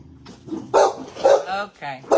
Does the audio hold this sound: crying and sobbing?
no